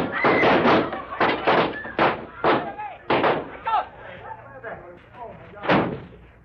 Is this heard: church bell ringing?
no